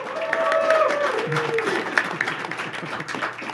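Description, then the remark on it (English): A live audience at SUU's Festival of Excellence, an annual celebration of faculty and student research, applauds steadily, a dense wash of many hands clapping, with a few whistles and cheers rising over it near the start before the applause carries on at an even level. “And to prove that to us, audience, will you signify your presence here by applauding or whistling or doing something?”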